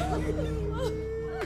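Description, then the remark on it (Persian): Women sitting on the floor beside a dead man's body cry and sob, their voices rising and falling in wavering, drawn-out wails with a few sharp breathy catches, steady and continuous throughout. “جیران و گلین روی زمین میشینن و گریه میکنن.”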